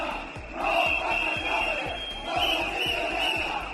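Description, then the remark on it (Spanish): A crowd of protesters outside shouting and chanting together at a motorcade led by the government's vice president, some throwing eggs, in a sustained, rowdy din, with a shrill steady whistle or alarm-like tone cutting through and rhythmic thumping underneath. “Gritaron y también varios de los concentrados lanzó algún huevo contra la comitiva que lideraba la vicepresidenta del gobierno y que no le llegó a impactar.”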